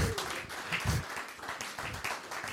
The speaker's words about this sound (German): Von daher braucht er einen richtigen Applaus, sonst kommt er hier nicht hin.